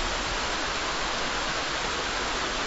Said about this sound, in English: That is the sound of a rushing river, so crystal clear you can look down and see the sandy bottom. I'm standing on a bridge of great historical importance. I'm in eastern Switzerland.